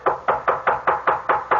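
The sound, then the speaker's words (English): A rapid, steady series of about eight firm knocks on a door, evenly spaced, with no voices. “I can't open the door, but come in if you like.”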